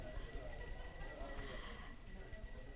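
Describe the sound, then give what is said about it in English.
A steady, high-pitched electric ringing holds unbroken for about three seconds at an even volume, with a low rumble of murmuring underneath. “But the truth is we don't need a bell. We don't need this to remind us.”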